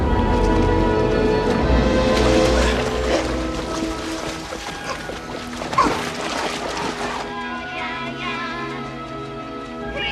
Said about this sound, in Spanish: Beethoven salta una cerca, pasa por encima de una mujer que toma el sol oyendo música y se lanza a la piscina. Bucea hasta ponerse debajo de Emily y la saca a flote.